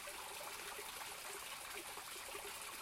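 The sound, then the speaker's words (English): A small woodland stream, come across during a woodland walk, trickles and burbles steadily, a continuous bright splashing wash of water with no voices or other sounds over it. “one of the reasons I like doing woodland walks. You come across little streams.”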